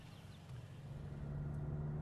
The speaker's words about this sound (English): Well, let's get in the car and we'll talk about it as we drive along.